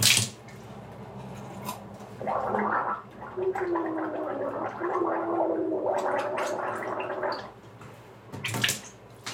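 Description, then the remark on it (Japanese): Someone gargles water for several seconds while voicing a steady "ahh" tone, the bubbling wavering under a sustained pitch, with brief splashes and water sounds at the start and end. “うがいするとき声出した方がいいってなんかで聞いたので、あーとか言ってます。”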